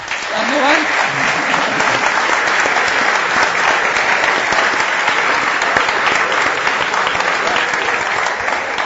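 A room full of people claps steadily and loudly for several seconds, a dense, sustained wave of applause from a close audience with no break in the clapping.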